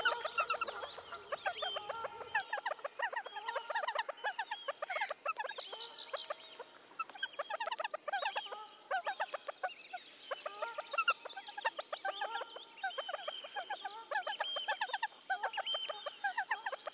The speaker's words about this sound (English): To capture these calls, I had to wade out before dawn in April and place a mic just 20 centimetres above the platform. The so-called buzzing call is a series of quiet, repeated contact calls, given almost constantly between the pair at close range.